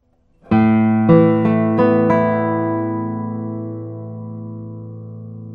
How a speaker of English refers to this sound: Well, let's play a few tones on this brand new Oreste Loz guitar and see how it sounds.